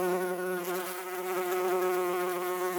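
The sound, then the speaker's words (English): A single bee buzzes steadily, a continuous droning hum with slight wavering in pitch, heard on its own without any voices. “We first listen to the recording of a single bee.”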